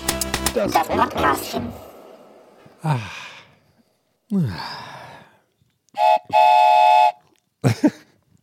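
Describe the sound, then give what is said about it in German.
A train rumbles in with clattering, dense noise, then gives two loud whistle blasts, a short one followed by a longer sustained one. Breathy sighs and gasps from a person come between the sounds. “Oh nein, wir müssen los, der Zug kommt.”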